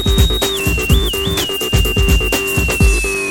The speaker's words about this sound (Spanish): Así, el silbato marinero ha sido una de las piezas más características de uso para los marinos militares. Y en el caso de la Secretaría de Marina Armada de México, es un sonido reconocible por todos sus elementos,